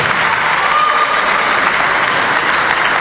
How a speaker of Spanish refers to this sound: Tampoco está con nosotros María López Aroca, pero le vamos a dar igual el aplauso, venga.